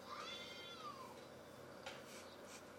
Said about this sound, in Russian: Лежишь, пытаешься заснуть, слышишь какой-то крик детский из окна. Ага. Что за хуйня? Подходишь поближе, смотришь, блин, какие-то коты орут.